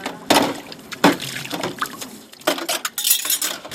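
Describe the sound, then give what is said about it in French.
Dishes being washed by hand: irregular clinks and clatters of plates and cutlery against each other, mixed with splashing, running water, in a busy, uneven rhythm with no voices. “Vous êtes déjà en train de faire la vaisselle, il y a déjà du travail.”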